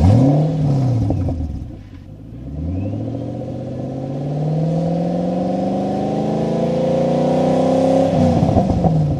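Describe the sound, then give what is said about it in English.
A loud 4.7-litre V8 engine of a Ford GT40 sports car revs briefly, drops back, then pulls hard in a long climbing roar of rising pitch, easing off near the end. No one speaks. “Many listeners will instantly recognise this sound as the 4.7-litre V8 engine from the Ford GT40.”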